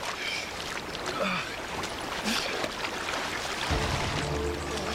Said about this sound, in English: Jungle River's always more powerful than you imagine. We're across the river, though.